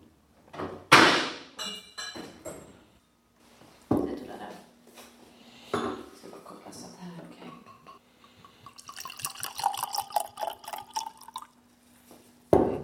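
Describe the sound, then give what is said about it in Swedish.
A few sharp clinks of glass, then rosé wine is poured steadily into a glass for several seconds, the gurgling splash rising in pitch as the glass fills. “Då har du hällt upp ett rosévin.”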